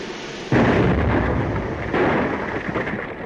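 A foundry mold whose sand held too much water explodes during a pour, blasting up to the foundry roof: a sudden loud blast, then a sustained, heavy rumbling roar that surges again partway through before slowly easing off. No voices are heard.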